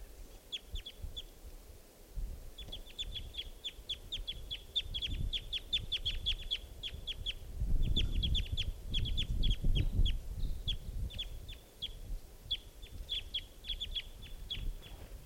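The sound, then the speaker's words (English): An immature bird, bird 508, calling in flight, gives rapid, repeated high-pitched chips in long runs, pausing briefly between bursts, over a steady low rumble of background noise. “It's got green, that was it calling in flight.”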